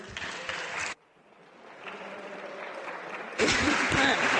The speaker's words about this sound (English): Order. Clapping is not in order in this house, as well as the display of flags and Celtic scarves